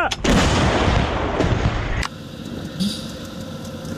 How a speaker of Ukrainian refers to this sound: Прошу один вогонь. Гармата!